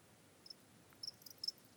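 cricket chirping sound effect

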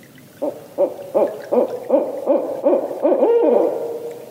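barred owls calling

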